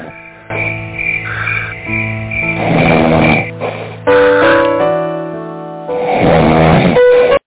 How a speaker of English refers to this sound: Hold on. Listen to that. As the half man snores.